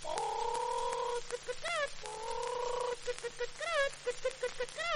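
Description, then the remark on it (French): A voice imitates a hen, with two drawn-out cackling calls, each followed by a quick series of short, rhythmic clucks, fairly loud against a faint steady hum. “Là, une poule qui prend des œufs pour faire des omelettes au lard.”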